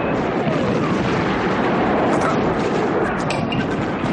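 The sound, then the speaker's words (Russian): Dense, continuous rumbling gunfire during an air attack by dive bombers on trenches, an aircraft cannon tearing up the ground beside a trench, with rapid bursts and booming low-end impacts, loud and steady throughout, and a faint high whine of aircraft engines above the din. “Самолетная пушка вспарывает землю рядом с окопом.”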